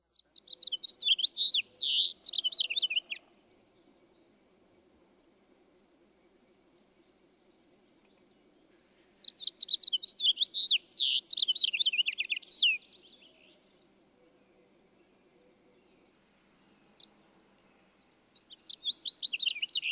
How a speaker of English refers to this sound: The house finch song is generally more burry sounding. Listen especially for the harsh, up-or-down slurred zree, which is often near the end of the song. This is perhaps the best handle.